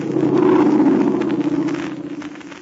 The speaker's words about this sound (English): It was somebody who means no good to any of our friends. We'll hear from that plane again, even though it may not land in ruined Ming Chau.